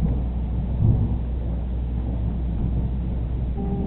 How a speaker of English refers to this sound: What is that, thunder?